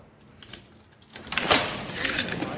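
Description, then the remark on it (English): After a quiet start, keys jangle and rattle, followed by the clunk and scrape of a locked ward door being unlocked and pulled open by an orderly letting visitors in, with faint background murmur. “An orderly opens the locked door and leads visitors onto the ward.”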